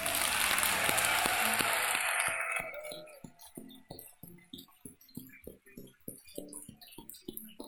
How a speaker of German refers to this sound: Einen großen Applaus für alle 4!